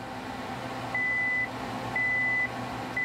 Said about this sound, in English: The beeping means an electric current is going to pass through the fuse wire and explode my snack.